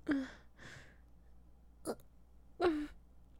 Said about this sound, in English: Sorry, excuse me. It was a burp.